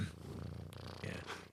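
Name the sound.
cat purring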